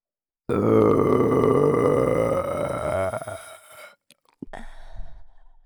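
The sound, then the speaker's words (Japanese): A long, loud belch, rumbling and croaky for about three seconds before trailing off, then a short pause and a smaller, softer burp, repeated again and again. “チンポに直接響くみたいなエロいゲップを何度も何度も浴びせられて。”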